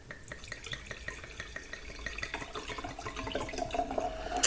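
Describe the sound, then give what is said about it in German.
Wine pours steadily into a glass with a soft, bubbly gurgle, the tone rising and growing slightly louder as the glass fills toward the end. No one speaks. “Auf der Aufnahme nicht mehr dieses sympathische Geräusch gab, wenn der Wein dann das Glas berührt, quasi das Glas küsst.”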